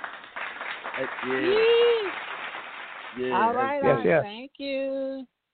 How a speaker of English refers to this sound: We will take you out with some claps.